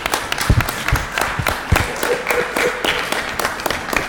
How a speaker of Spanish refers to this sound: Un aplauso, por favor.